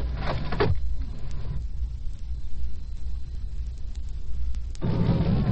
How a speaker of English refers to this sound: We're cruising down a residential street.